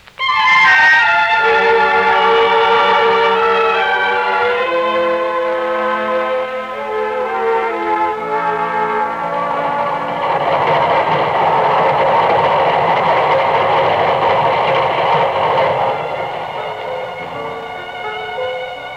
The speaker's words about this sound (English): There's your train.